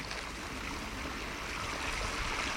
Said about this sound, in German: Ein lebendiger, sprudelnder Bach, schmal und verschlungen. Wenn du möchtest, kannst du einfach auf die andere Seite springen.